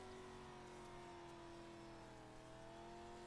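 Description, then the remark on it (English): A race car engine drones loudly and continuously for a few seconds as the car accelerates out of a corner, its pitch holding fairly steady as it pulls along, with no voices over it. “Man, this thing is slow coming off the corner.”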